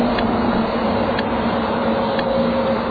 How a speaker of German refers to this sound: Um zur Straßenbahn zu kommen, muss ich die Favoritenstraße überqueren. Ich bin nun bereits beim Ampelmasten und man hört trotz des Verkehrslärmes auch das Ticken der Ampel mit akustischem Signalgeber. Jetzt habe ich den Knopf betätigt.